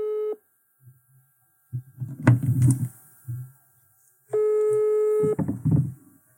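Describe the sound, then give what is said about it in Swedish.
A telephone ringback tone sounds in two steady, sustained bursts separated by a pause, with soft low thumps and faint rustling or muffled voice sounds in between, as a call is placed over Bauhaus. “Nu ringer hon.”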